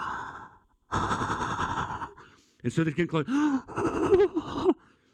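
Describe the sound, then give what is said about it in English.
A voice imitates restrained, quiet panting after running fast, slowing the breathing so as not to be heard: a faint breath followed by a longer, noisy, held-in exhale, before a man resumes talking. “Guys, you ever been running so fast and you try to slow down your breathing so that they can't hear you?”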